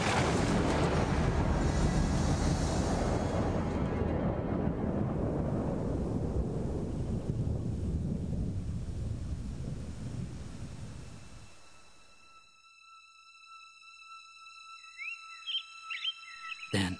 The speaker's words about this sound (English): As quickly as it had begun, the storm, like a wickless candle, blew itself out. All was quiet and still.